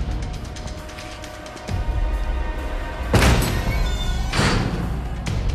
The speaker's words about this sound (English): Agent Strahm proceeds cautiously through an open steel door. He moves round another corner, and still with his gun raised, he kicks open another door.